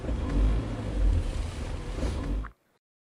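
A close car engine rumbles with deep low-end power, the revs swelling and easing for a couple of seconds before it cuts off abruptly into silence.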